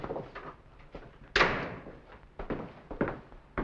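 The front door of a villa bangs shut as Duran comes in, with a sharp, resonant thud that rings briefly, followed by a few softer knocks and rattles as it settles. No one speaks.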